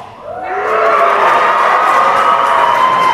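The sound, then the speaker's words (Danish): A crowd of many voices shouts together in response to a call for everyone against a beach hotel on Grenen, rising quickly after a brief quiet start and holding loud and steady for about three seconds, a dense mix of high, strained yells. “Alle jer, som ikke vil have badehotel på grenen, I råber.”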